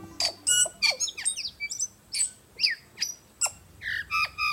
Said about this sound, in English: The tui is one of New Zealand's most remarkable birds. It's considered an intelligent bird on a level with parrots. And the foot-long tui is a stunner, feathered in black with a blue iridescent sheen.